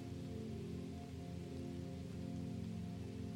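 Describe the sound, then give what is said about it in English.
Steady, gentle rain falls continuously with a soft, even hiss, quiet and uninterrupted, with a low sustained humming tone underneath and no voices. “The rain accompanies you and it makes you lighter.”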